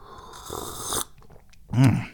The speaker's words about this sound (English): Can you hear that behind me? Hear that yang, yang, yang, yang? Oh, there's a kitty out there.